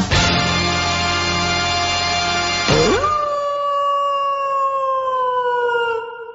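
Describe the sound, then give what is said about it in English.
A long, loud wolf howl with a rich harmonic tone, dipping briefly before rising into a sustained, slowly falling wail that fades out over several seconds, heard on its own. “Werewolf for mitzvah, spooky, scary, boys becoming men, men becoming wolves.”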